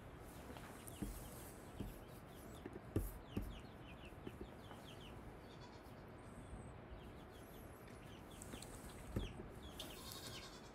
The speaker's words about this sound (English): I got some chickens over there too.